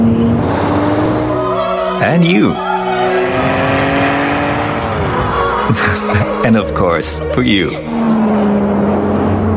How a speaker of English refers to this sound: Oh yes, not forgetting you too. Porsche Cayenne, that sports car feeling for the whole family.